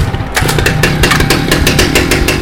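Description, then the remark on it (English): A chainsaw engine, started by pulling its cord, catches after a brief pause and roars loudly and steadily, its rapid pulsing rasp filling the rest of the moment with no voices. “I ripped the cord and let the engine roar.”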